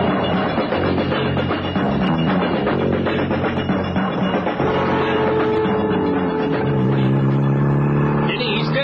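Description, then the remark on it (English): A car engine revs and accelerates as the driver puts his foot down, its droning pitch climbing steadily as it picks up speed, loud with a dense rumble of road noise throughout. “I'll put my foot down a bit. See what he does.”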